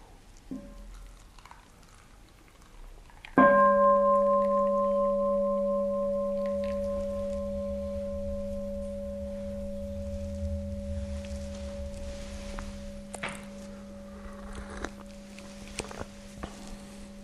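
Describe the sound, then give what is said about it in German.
A single bell is struck once and rings on with a steady, pure tone that slowly fades over many seconds, with faint rustling and small taps in the background. “Dann haben wir wieder eine Glocke.”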